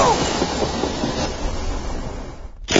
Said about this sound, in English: Wait, I've got a better idea. I'll jump on the next train that passes under this bridge and hang on for dear life.